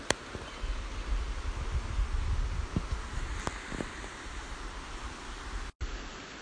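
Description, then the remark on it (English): Steady, rumbling wind gusts outdoors on a mountain, a broad whooshing roar with low buffeting on the microphone and a few brief knocks, continuous throughout with no voices. “I also brought with me some work to do up here, but I think it's a bit windy.”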